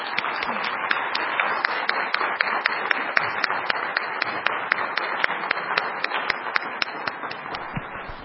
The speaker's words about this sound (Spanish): Agradezco mucho también a toda la audiencia que nos han seguido por redes sociales, y les pido por favor que demos un aplauso a nuestra conferencista.